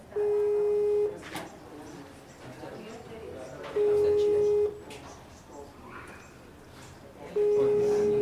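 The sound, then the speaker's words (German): A telephone busy signal sounds in three steady one-second beeps spaced a few seconds apart, with sharp clicks in the gaps as the caller hangs up and redials, over faint background noise. “Klicken, auflegen, wieder anrufen. Und nochmal von vorne.”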